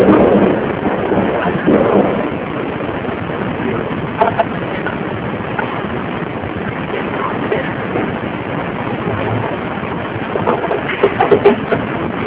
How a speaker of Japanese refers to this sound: あの音は何の音ですか。花火の音、